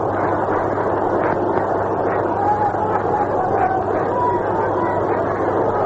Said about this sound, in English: It's a very excited crowd here at St. Louis.